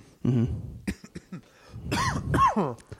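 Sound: coughing and throat clearing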